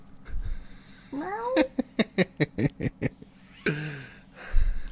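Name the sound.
cat meowing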